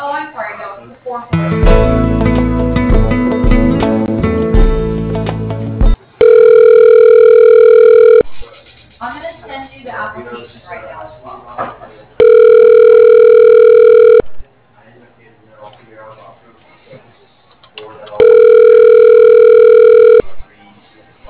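A telephone rings as a call is transferred to a company's CFO: a burst of hold music, then three steady, evenly spaced electronic rings, each about two seconds long, with faint muffled sounds in the pauses.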